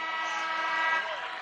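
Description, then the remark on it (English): A basketball buzzer horn blares at the end of the first half of a game between the Northwest Vikings and Sydney, with the score 35-18, in one steady, continuous blast, a loud, rich, buzzy tone that holds for the whole moment, easing only slightly near the end. “And Plackey will pick up the ball as the horn sounds, and the Vikings have nearly doubled up Sydney in the first half.”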